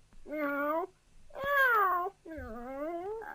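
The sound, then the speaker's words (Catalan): A kitten meows three times in a row, each call long and clear, with a drawn-out, slightly wavering pitch and short pauses between them. “Ai, ai, que bé que enrona aquest gatet. Quina veu més bonica que té, comparada amb aquella veuassa del gos i amb aquells crits del gall.”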